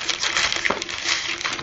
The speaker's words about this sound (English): It's just draining out all that water you put into it.